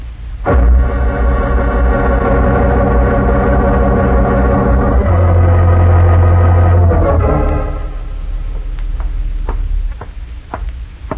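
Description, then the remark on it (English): Heavy trucks drive up, their deep engines rumbling loud, droning and shifting pitch before settling to a quieter idle, followed by a few sharp knocks like doors banging shut. “Didn't I hear the trucks drive up?”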